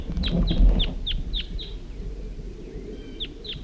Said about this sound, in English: At least one of the birds is calling and coming back.